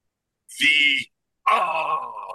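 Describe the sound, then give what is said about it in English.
A crowd of fans lets out two loud, drawn-out groans separated by a brief pause: the first lasts about half a second and sags at the end, the second runs longer and gradually fades. “Those were the best crowd groans I've ever heard in my life.”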